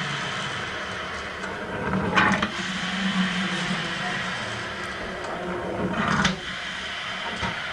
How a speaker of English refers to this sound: So anyway, here's something that my mom harkens back to the old days on. The okay. sound of a coffee percolator.